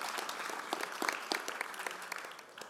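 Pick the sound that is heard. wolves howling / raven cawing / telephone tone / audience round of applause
audience round of applause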